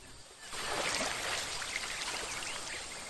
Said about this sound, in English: A kangaroo is drinking nearby as the emu lowers its long neck and fills its beak with water.